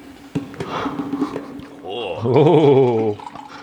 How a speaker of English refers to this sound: Pours another drink.